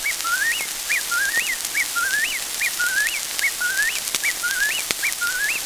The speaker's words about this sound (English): "Hark," exclaimed Uncle Wiggily. "The robin and Whippoorwill are singing together."